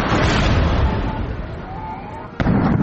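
A dense, continuous roar of rumbling blasts and crackling bursts from ammunition exploding at an ammunition depot at Kalinovka, broken near the end by one sharp, loud detonation followed by renewed heavy booming.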